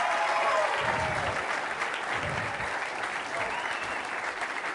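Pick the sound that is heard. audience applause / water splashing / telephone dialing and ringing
audience applause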